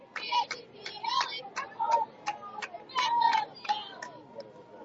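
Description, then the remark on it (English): The College Place team bench cheering at a baseball game, still into it despite trailing 14-2: steady rhythmic clapping with raised, chant-like voices rising and falling over a few seconds, moderately loud. “That cheering you heard right there, that was College Place bench.”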